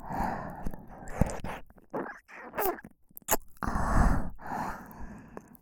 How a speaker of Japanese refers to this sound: それにお兄さんの吐息が私が耳舐めするたびに私の耳をくすぐってるんですよ。